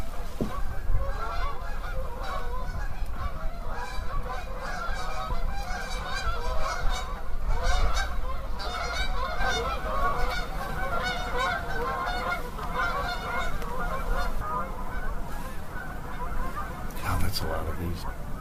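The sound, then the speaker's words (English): A large flock of Canada geese honks continuously and loudly in the countryside, many overlapping calls forming a dense, chaotic chorus for the whole stretch, with a brief louder burst near the end. “And now, you know, the whole countryside is full of Canadian geese. Not more than 10 minutes later, we had visitors.”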